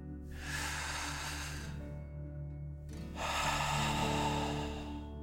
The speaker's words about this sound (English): Again, breathe in through your nose and out through your mouth, pretending you are breathing fire. Deep breath in and out.